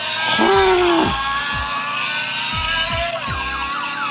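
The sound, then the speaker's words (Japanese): A loud, continuous electronic buzzing tone from a vibration sensor unit, set to a motorbike sound and pushed back and forth across a table like a car, rich in harmonics, holding steady for about four seconds while its pitch wavers and sweeps up and down in a toy-engine-like way. “うわー、今ね、私が何してるかというと、ユニットをテーブルの上でね、車のようにブーンとこう動かして前後させてるんですが、これがじゃあ感知して、おずっと鳴ってる、こういう風な音が出てくるわけですね。”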